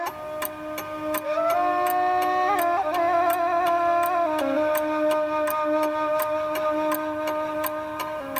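Steady, regular, crisp clock ticking from several timepieces in a watchmaker's shop in Novi Grad runs throughout over a sustained tonal drone with shifting pitches and soft music underneath. No one speaks.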